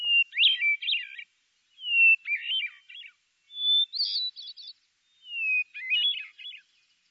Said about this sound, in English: Now listen to the song of the hermit thrush. It ends with a warbling flourish that alternately rises or falls in pitch.